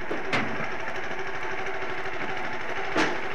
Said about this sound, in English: you can hear the little petrol engine driving the conveyor belt and the coal being loaded into the tender.